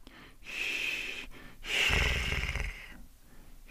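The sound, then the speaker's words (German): Two breathy, rasping airflow sounds, fairly loud, the second deeper and rougher like a light snort, separated by a short pause. A voice demonstrates the breath made before the first snore, air streaming through with the lips still and the tongue relaxed; no speech. “Ein bisschen ist es so, wie dieser Sound, den wir machen vor dem ersten Schnarcher.”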